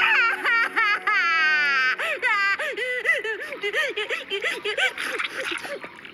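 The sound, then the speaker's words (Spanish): A baby wails loudly, a long rising cry breaking into rapid, rhythmic sobbing gulps that continue without pause for several seconds. “Ya debe estar por agotarse. No puede quedarle mucho llanto.”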